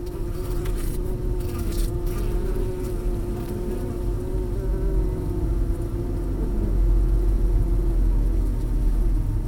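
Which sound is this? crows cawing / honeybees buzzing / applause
honeybees buzzing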